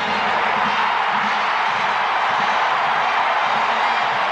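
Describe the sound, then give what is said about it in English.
A large crowd at Yankee Stadium cheers the final out of a Major League perfect game in a loud, unbroken roar that holds steady for several seconds, a dense wash of many voices with no single speaker standing out. “What a wonderful crowd.”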